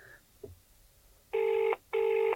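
A telephone ringing tone sounds twice, two loud, steady buzzy bursts in quick succession, preceded by a faint brief click, as a call is placed live on the Talking More Bollocks show, with no one speaking.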